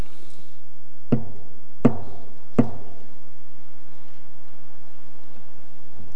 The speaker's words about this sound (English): Is that the Lord knocking at the door of this church? Is he knocking at the door of your life or mine?